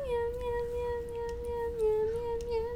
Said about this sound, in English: And why were we looking for a meow sound?